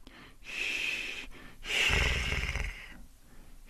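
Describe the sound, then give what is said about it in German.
A voice makes two breathy, airy exhales, the second longer with a low rumbling edge, demonstrating a German "ch" sound with the lips still and the tongue relaxed, like the loose snort-like breath someone gives just before starting to snore. No words are spoken. “Ein bisschen ist es so, wie dieser Sound, den wir machen vor dem ersten Schnarcher.”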